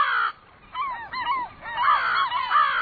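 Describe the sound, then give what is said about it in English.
A crow caws several times in harsh, raspy bursts, starting with one call, then a quick cluster of short ones and a longer rough stretch, with no talking. “Very crafty, these crows.”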